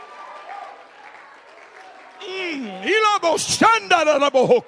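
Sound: audience clapping and shouting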